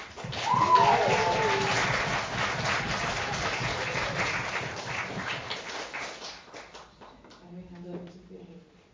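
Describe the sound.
An audience breaks into loud, dense applause that holds steady for several seconds, then thins out and fades, leaving a brief voice speaking at the end.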